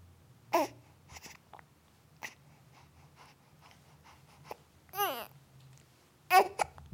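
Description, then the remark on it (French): A baby babbles and fusses in a few short, separate bursts, with brief whiny cries rising and falling between quiet pauses, against a low background hum. “Non, arrête de pleurer, je suis désolé.”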